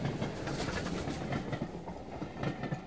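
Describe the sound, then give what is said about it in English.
A Class 170 Turbostar British diesel multiple unit train from Edinburgh, due to arrive at 12:03, rumbles steadily, its loud, continuous roar carrying a faint rhythmic clatter of wheels over the track, with no voices. “And due to arrive at 1203 is the class 170 Turbostar British diesel multiple unit train from Edinburgh.”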